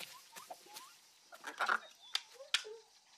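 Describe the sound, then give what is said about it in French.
A person imitates a bird with an uneven run of squeaky chirps, clucks and clicks, plus a few brief high whistles, loudest in the middle before trailing off. “Personne ne va me prendre pour un oiseau.”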